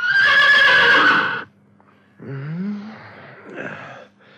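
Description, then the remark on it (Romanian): A horse neighs loudly, a long bright whinny lasting over a second, followed after a pause by softer snorting and breathy nickering sounds. It is Țugulea's horse, neighing hard and waking him from sleep. “Ei, și tocmai când era visul mai frumos, calul lui Țugulea neteză cu putere și îl trezi din somn.”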